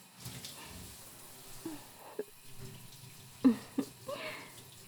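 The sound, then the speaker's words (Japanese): Water runs steadily as a body is rinsed, a soft continuous hiss broken by a few brief splashes and drips. A quiet voice murmurs faintly underneath. “体を流してる時に触れただけでいちいちピクッとしない。”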